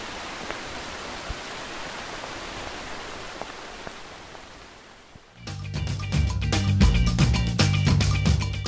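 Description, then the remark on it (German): Steady rain hisses for about five seconds in Santa Anita La Union, with a few sharper drips ticking through, before it fades and music swells in to take over. “Zum Abschied regnet es.”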